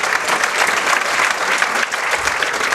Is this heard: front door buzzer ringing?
no